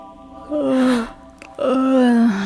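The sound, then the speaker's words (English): A reviving woman gasps for breath twice in quick succession, each intake voiced and drawn out into a low, moaning tone. The sounds are fairly loud, with no talking. “I think she's breathing.”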